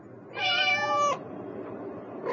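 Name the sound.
cat meowing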